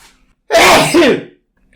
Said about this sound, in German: Oh, ich muss niesen.